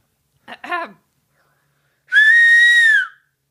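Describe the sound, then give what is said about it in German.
A person, stepping back a little from the microphone, whistles one clear, sustained note through pursed lips for about a second, its pitch holding steady before dipping at the end, after a brief murmur of voice. “Und ich gehe jetzt mal kurz ein bisschen vom Mikro zurück und pfeife mal kurz, okay?”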